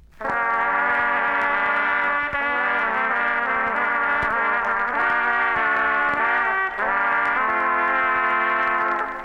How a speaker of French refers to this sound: Et enfin, le grand loup gris qui sort du bois. Écoutez les trois cors sévères et sombres.